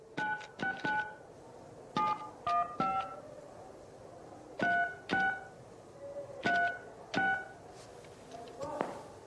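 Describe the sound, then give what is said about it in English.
A run of about a dozen short, bright two-tone telephone keypad beeps as a man in a cell presses the device's faceplate to place a call, pressed in uneven bursts with brief pauses between groups, over a low murmur of background noise. “Bosco gazes warily outside, then presses his hands to the device's faceplate. He places a call.”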